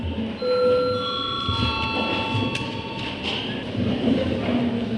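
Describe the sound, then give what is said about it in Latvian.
A Saeima (Latvian parliament) session bell, rung to call a break and registration mode, rings in a steady, sustained electronic tone with layered high pitches lasting the full five seconds, over a low murmur of background chatter and shuffling. “Lūdzu zvanu, lūdzu reģistrācijas režīmu.”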